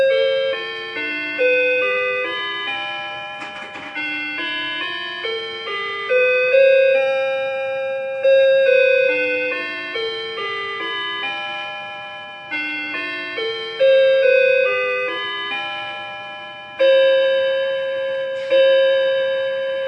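A clock chimes a slow melody of ringing bell-like tones, each note struck and left to fade, the tune repeating steadily for the whole stretch with no voices present.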